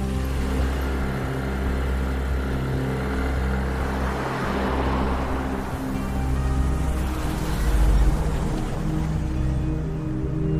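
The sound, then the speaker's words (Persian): A steady, droning engine hum of a motorcycle following a car along a street, keeping its distance behind the car, low and continuous, with a brief swell in loudness near the end. No one speaks. “با موتور میره دنبالش.”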